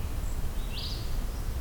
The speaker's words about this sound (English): Yeah, there is a pine warbler here.